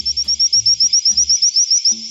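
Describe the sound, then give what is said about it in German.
A Madagascan Boophis frog gives a rapid series of high, thin whistled notes to communicate with others of its kind, repeating evenly, about a dozen short chirps in two seconds, fairly loud, with soft low thumps beneath. “Nein, die madagassischen Frösche mit dem Gattungsnamen Bophis stoßen hohe Pfeiflaute aus, um sich mit Artgenossen zu verständigen.”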